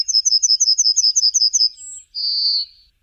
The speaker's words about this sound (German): Die Goldammer soll Meister Beethoven ihren markanten Gesang im Wiener Prater zugetrellert haben.